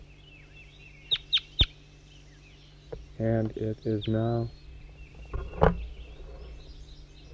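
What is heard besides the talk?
bird calling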